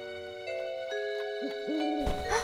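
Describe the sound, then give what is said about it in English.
A couple of low, rounded owl hoots sound over a steady, eerie musical drone, with a brighter swell of noise near the end. No one speaks. “I think it was just an owl or something.”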